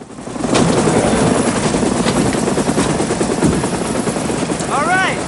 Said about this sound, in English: An Aegis helicopter lands at the substation in a snowstorm.